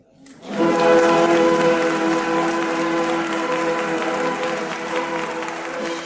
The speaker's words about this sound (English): Prolonged applause for Albert in F with the Huddersfield King James Music Theatre